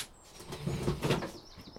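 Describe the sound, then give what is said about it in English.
Green fold-up chairs being grabbed and handled, a brief burst of rustling, scraping and light clattering that swells in the middle and fades out, with no one talking. “The chairs, we've got some fold-up chairs.”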